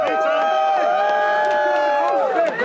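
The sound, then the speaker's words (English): A crowd of supporters outside a courthouse cheers and calls out together, greeting a man arriving in a prison van for a hearing, many overlapping voices forming a loud, steady wall of sound with sustained raised tones throughout. “A group of supporters greeted him. They were cheering.”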